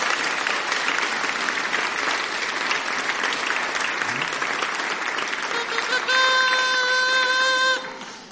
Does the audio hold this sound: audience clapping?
yes